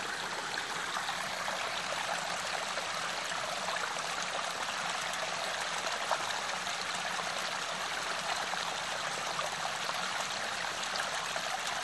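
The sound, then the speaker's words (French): A mountain stream rushes steadily, its bright, continuous splashing and burbling water filling the scene at an even level with no voices. “Je vous invite à écouter le bruit de ce ruisseau qui coule de la montagne et à déposer au sein de cette eau pure, limpide, fluide, vos pensées, vos tensions.”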